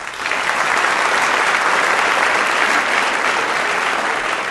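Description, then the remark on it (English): A large debate audience applauds the debaters steadily, a dense, even wash of clapping that swells in quickly and holds at a strong, constant level throughout with no voices over it. “And I know you just applauded your hearts out for them, but when I name them again, I'm going to ask you to do that one more time.”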